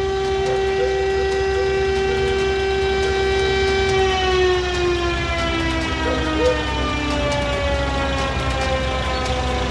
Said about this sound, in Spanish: Esto está ocurriendo en la avenida Ramón Picarte en Valdivia. Ya está en el exterior del servicio médico legal la carroza fúnebre. Escuchamos la sirena.